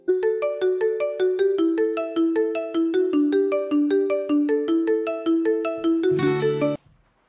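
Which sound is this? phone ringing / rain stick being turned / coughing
phone ringing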